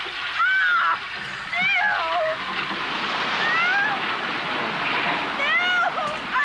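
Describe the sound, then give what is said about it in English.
Water pours down in a steady, loud rush, overflowing from a house, spilling over continuously, with thin squeaky chirps and whistling tones rising and falling above the torrent. “And a ton of water's coming down. The inside-out house, I guess, is overflowing.”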